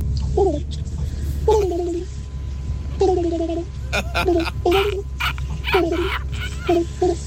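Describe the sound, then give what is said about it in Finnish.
A person imitates a pigeon's cooing in repeated warbling, throaty phrases with a bubbling, gargle-like quality, coming in several short bursts over a low, steady background rumble. “Otetaan seuraavaa pulustajaa täällä sitten ääneen.”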